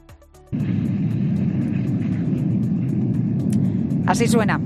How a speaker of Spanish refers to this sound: Así suena ese avance de la lava hacia el mar.